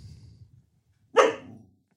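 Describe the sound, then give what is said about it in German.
A single sharp dog bark rings out loud at home, preceded by a low, muffled rumble of background noise and followed by quiet. “Und jetzt hören wir sie gerade wieder.”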